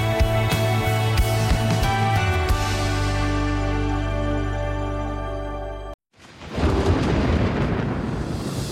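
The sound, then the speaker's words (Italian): In a car advert for the Jaguar E-Pace Thunder, a loud, droning tonal sound gives way to a brief silence, then a sudden burst of broad, rumbling thunder that swells up and rolls on. No one speaks. “Jaguar E-Pace Thunder, il tuono dopo la tempesta.”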